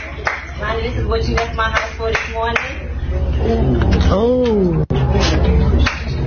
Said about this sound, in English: All right, so they busy exchanging the rings. That's her clapping.